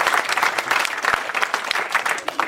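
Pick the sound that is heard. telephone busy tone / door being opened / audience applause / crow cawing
audience applause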